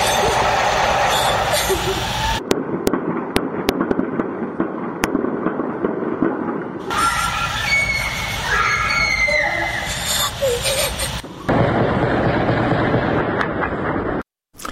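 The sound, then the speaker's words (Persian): Scattered gunshots crack out across a street in the city of Mahabad, West Azerbaijan province, as security forces with war weapons and armored vehicles enter, a handful of sharp bangs at irregular intervals, with a crowd's voices and shouting filling the background throughout. “بر پایه ویدیوها و گزارش‌ها از شهر کردنشین مهاباد در استان آذربایجان غربی، نیروهای امنیتی و یگان ویژه با سلاح جنگی و با پشتیبانی خودروهای زرهی وارد مهاباد شدند و صدای تیراندازی از مناطق مختلف شهر به گوش می‌رسد.”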